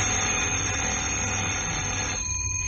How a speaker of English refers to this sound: And then, 2 years later, on a windy April morning of 1939, a phone rang in Vine Street CID office.